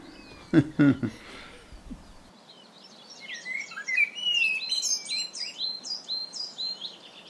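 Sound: blackbird singing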